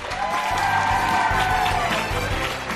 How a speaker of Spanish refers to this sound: Porque hoy es un día grande para nuestra emisora y para 3 colegios. Colegio Público Badiel. Un fuerte aplauso.